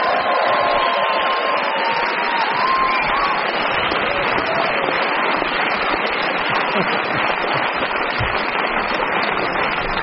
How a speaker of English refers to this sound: A resounding round of applause.